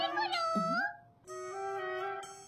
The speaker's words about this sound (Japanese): 猫 よ。 猫。